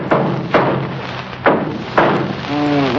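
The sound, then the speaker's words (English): Several hard metallic thuds of a hammer striking an engine land at uneven intervals, loud, over a steady low hum, followed by a brief harmonic tone near the end. “Let me try something else here with this hammer.”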